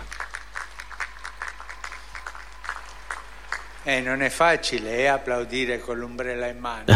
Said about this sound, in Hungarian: A legtöbben itt vannak a téren, de sokan betegek a hatodik pálteremben tartózkodnak, és nagy méretű kivetítők követnek minket. Ezért arra kérlek titeket, hogy köszöntsük őket egy nagy tapssal.